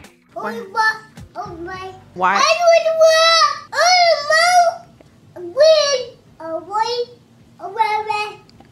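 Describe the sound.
A toddler whines and cries in a series of drawn-out, high-pitched wails, loud, with a couple of fretful spoken words mixed in between the bursts.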